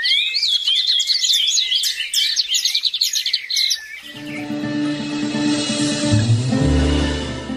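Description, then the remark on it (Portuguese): Several small birds chirp and trill rapidly and brightly for about four seconds, then the birdsong fades into a steady, low, instrumental-sounding tone that swells toward the end. “Nem todo mundo canta bem, avisou o Tico-Tico.”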